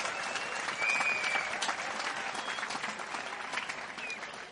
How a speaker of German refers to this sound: Wer ist denn eigentlich zum ersten Mal hier auf der Pfingsttagung? Herzlich willkommen, schön, dass ihr da seid. Ein kräftiger Applaus für alle, die zum ersten Mal da sind.